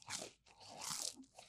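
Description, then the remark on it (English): A crisp crunch as someone bites into a footlong cinnamon-sugar churro from Subway, followed by a second burst of crunchy chewing, loud and dry with no talking. “I want you to taste it to tell me if it really does taste like cinnamon”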